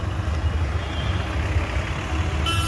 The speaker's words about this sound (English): Already, we can feel the dust and the busy traffic en route.